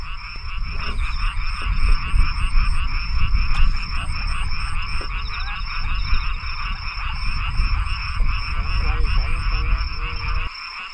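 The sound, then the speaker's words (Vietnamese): A dense night chorus of frogs and toads croaking continuously, with steady high-pitched calls and rhythmic pulsing croaks layered over a low rumbling background, fairly loud throughout. “Có đi soi nhái, soi cóc ban đêm mới thấy được cái tài quan sát của những người thạo nghề.”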